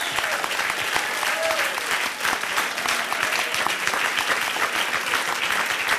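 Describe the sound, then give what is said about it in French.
Steady, loud audience applause at an improv show with a pianist fills the whole stretch, a dense wash of many hands clapping with no pause, with a brief faint voice or cheer rising once near the start. “Merci beaucoup, on peut vous applaudir aussi, très fort.”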